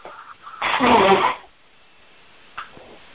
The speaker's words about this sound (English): Excuse me one moment. I'm going to blow my nose.